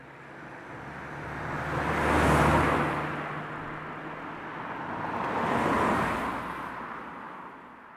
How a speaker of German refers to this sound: Und da ist die Straße auch schon. Autos flitzen vorbei, dicke Lastwagen fahren kaum langsamer.